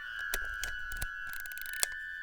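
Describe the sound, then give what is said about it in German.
Several sharp camera shutter clicks sound at irregular intervals, crisp, over a steady high-pitched electronic whine and faint low rumble. No one speaks. “Ich brauche meine Kamera.”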